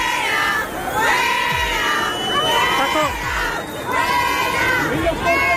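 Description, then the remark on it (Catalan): Protesters shout and jeer loudly at a demonstration as Madrid deputy mayor Begoña Villacís and Ciutadans Catalonia leader Lorena Roldán leave it: a dense crowd of overlapping raised voices with rising calls and whistles, sustained throughout. “Per exemple, la de la vicealcaldessa de Madrid, Begoña Villacís, i la líder de Ciutadans de Catalunya, Lorena Roldán, abandonant la manifestació entre crits d'alguns manifestants.”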